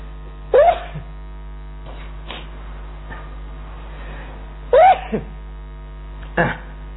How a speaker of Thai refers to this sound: ขอไปจามขออนุญาตจามไปแล้วก่อนขออนุญาต